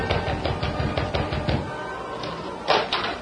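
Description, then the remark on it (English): A young sailor knocks on the door of the Stevens home: a quick series of hollow raps on a wooden door, about ten knocks in an uneven rhythm, followed by a pause and one louder thump. “In the meantime, the young sailor rapped on the door of the Stevens home.”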